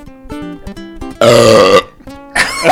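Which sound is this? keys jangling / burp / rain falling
burp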